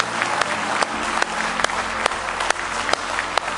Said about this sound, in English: Give him a big hand clap of praise if you love him. Oh, you can beat that. Give him a real good hand clap.